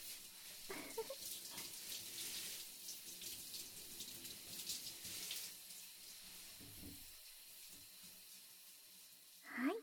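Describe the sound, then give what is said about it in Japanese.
Shower water runs in a steady, hissing spray as a person's back and then front are rinsed, with soft splashes shifting as it hits the body, and a brief louder gush right at the end. “最後に前を流しますよ。”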